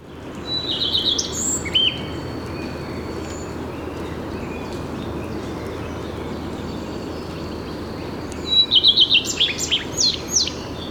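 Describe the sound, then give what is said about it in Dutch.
A chaffinch gives its call, not its song, in two short, bright bursts of rapid chirping notes, one near the start and another near the end, heard clearly over a steady outdoor hiss. “Nou, hier zit een vink te roepen.”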